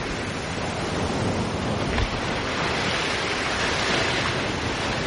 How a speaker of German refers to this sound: Aber das Meeresrauschen, das können wir uns hier auch mal gönnen kurz.